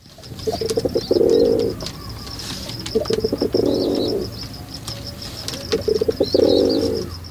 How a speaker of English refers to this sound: Take the rock pigeon. These guys court each other with gentle coos, and to signal distress, they use a harsh grunt.